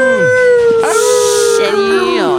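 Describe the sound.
A long, sustained wolf howl holds one steady pitch with rich overtones, loud, with a burst of hissy noise partway through and a falling, wavering tail at the end.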